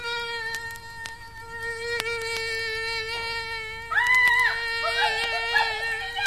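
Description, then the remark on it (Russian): A common black fly buzzing in a steady, even drone that holds one low pitch throughout, joined near the end by a louder, wavering higher tone. “Вон там спускается с таким шумом. Какая-то большая птица. Это просто муха. Обыкновенная черная муха.”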